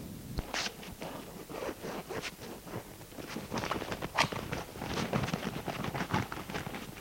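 A suitcase set on a table is opened and rummaged through to take out pyjamas: a string of clicks, scrapes and rustling bursts with a zipper-like rasp, steady handling noise lasting several seconds with no voices.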